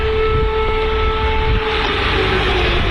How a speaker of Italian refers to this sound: Stamattina a Kiev l'allarme è partito. Kiev, le sirene antiaereo continuano a risuonare, una realtà questa della guerra in Ucraina raccontata da questa notte sui social con i video di chi sta vivendo tutto sulla propria pelle.